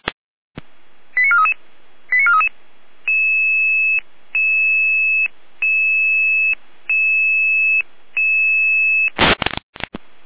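Radio dispatch alerting tones from the Jena dispatch centre, alerting the fire brigade to a carrying assist for the ambulance service: a few quick chirps, then a steady sequence of five evenly spaced, sustained tone bursts, ending in a short burst of loud noisy static. No one speaks.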